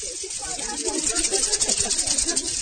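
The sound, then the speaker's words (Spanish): A maraca solo played for Radio Nacional de Colombia: quick, steady rhythmic shaking with a bright, hissy rattle that keeps an even pulse throughout, fairly loud, with some low murmuring underneath. “Y las maracas de la Radio Nacional de Colombia, que lo que ustedes escuchan, un solo de maraca, por favor, para la Radio Nacional de Colombia.”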